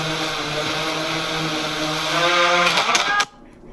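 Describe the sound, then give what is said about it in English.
A drone's spinning blades give off a steady, buzzing harmonic whine that wavers slightly, then several sharp clattering bursts break in before the sound abruptly cuts off. “It sounded like the drone was starting to go down.”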